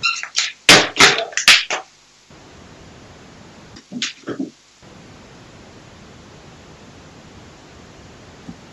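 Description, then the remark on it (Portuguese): A cluster of sharp, loud knocks and clatters from a door being closed, then a brief pause and a few softer thuds, fading into a steady background hiss. “Vou fechar esta porta.”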